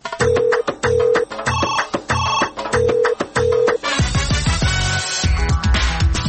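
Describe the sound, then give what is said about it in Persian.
A loud electronic telephone ringtone of the Radio Azadi message line plays a quick, repeating beeping melody, then gives way to a denser burst of busy musical tones; no one speaks. “تلفن پیامگیر رادیو آزادی است. پیام هایتان را ثبت کنید.”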